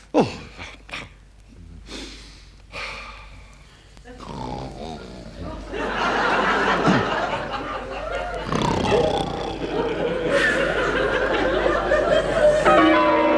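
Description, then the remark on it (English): Church bells clang loudly and continuously, building into a dense, ringing peal that fills the second half, with startled voices and exclamations mixed in underneath. “what's that dreadful noise? The bells, Bishop.”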